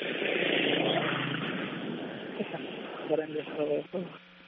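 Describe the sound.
Over a narrow, phone-like line, a car passes in the street with a broad rushing whoosh that gradually fades out, followed by a few seconds of someone speaking.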